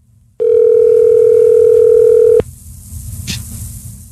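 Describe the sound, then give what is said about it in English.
A steady, loud telephone dial tone of an outgoing call hums at a single pitch for about two seconds, then cuts off abruptly, leaving faint line noise with a brief click afterward. “Okay, you call Remy McNamara right now, and we're just going to sit until you're ready for us.”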